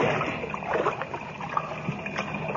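Sloshing and splashing water as people wade through the partly flooded lower shaft of a mine, with a steady churning wash and a few sharper splashes from each stride, continuous.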